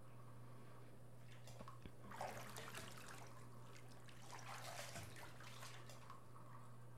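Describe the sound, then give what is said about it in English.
Bathwater sloshing and splashing in two soft bursts as someone dunks their back in a bath to rinse off soap bubbles, with gentle trickles in between over a low steady hum. No voices are heard. “Dunk your back for me, sweetheart. Get all the soap bubbles off yourself.”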